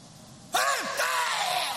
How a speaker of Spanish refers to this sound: El grito de … claramente, que indica que va a comenzar.